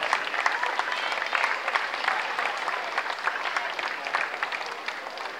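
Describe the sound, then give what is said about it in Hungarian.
Sustained applause from a sizable audience at the opening of a kindergarten sports day, a dense steady patter of many hands clapping for several seconds at a fairly even loudness, with no voices standing out. “és egy nagy-nagy tapssal köszöntsük”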